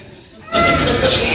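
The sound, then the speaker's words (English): After a brief quiet moment, a person lets out a loud, wavering, nasal bleat, imitating a goat with their voice. “Now do your best goat.”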